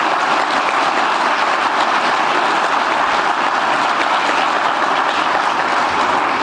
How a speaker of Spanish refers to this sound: Para ellos sí, les pido un fuerte aplauso porque realmente se lo merecen.